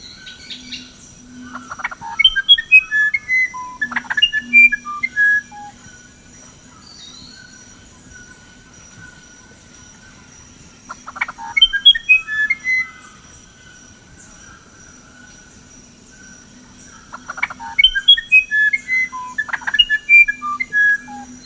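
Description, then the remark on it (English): A musician wren sings clear, fluting whistled phrases in three separate bursts with quiet pauses between, each a quick run of sweet, tumbling notes over a faint, steady insect-like hum. “So the musician wren is a favorite of many people and a bird of legend, you know, and it's known as the flautista in much of its range in South America.”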